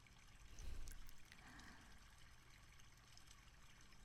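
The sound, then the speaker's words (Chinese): A small stream trickles and babbles steadily, a continuous soft wash of running cold water with a slightly fuller surge near the start, with no voices. “不就是一条小溪吗？”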